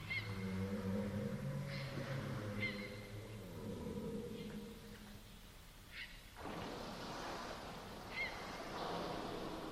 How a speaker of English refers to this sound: Radio station. Until you hear a whale. Oh, I see. Yes! Turn it up!